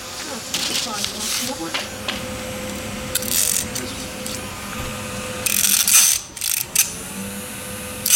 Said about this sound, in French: Alors, le ventilateur.